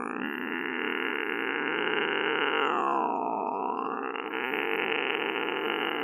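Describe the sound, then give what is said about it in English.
A voice imitates an annoying cat noise: one long, loud, raspy yowl lasting several seconds, with a pitch that bends and dips midway before leveling out again. “Making that super annoying cat noise”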